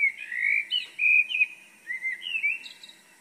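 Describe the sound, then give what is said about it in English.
Birds sing outside a window at 5 a.m. in Amsterdam in a continuous stream of bright, warbling chirps and whistles, phrases tumbling one after another with no talking, just a faint quiet background. “in Amsterdam 3 weeks ago, when I recorded these birds that woke me most mornings as they sang outside my window.”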